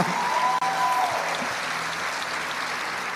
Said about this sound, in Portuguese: Mas com o marido, pode aplaudir Jesus.